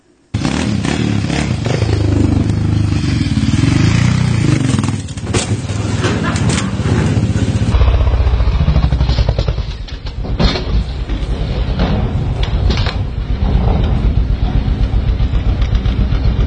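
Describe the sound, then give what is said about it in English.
Loud motorbike engines roar and rev continuously, with sudden clattering and scraping bursts like a bike going down, over a steady wash of crowd noise. “That combination is men, motorbikes, and an audience.”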